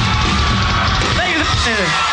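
A dense, roaring crowd cheers without pause for a band's lead singer, with several high, rising whoops and yells standing out above the steady wash of noise near the end.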